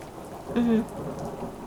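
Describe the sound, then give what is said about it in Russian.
Steady rain hisses throughout, with a brief, louder low rumble of distant thunder rising and fading midway through. No one speaks. “Звук дождя очень подходит.”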